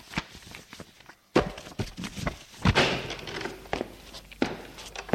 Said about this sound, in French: La porte s'est ouverte pour la seconde fois